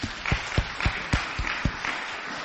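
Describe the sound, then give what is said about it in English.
An audience's round of applause, with steady rhythmic claps landing about four times a second over a bed of scattered clapping, easing off toward the end. No one speaks. “Let's give a round of applause there.”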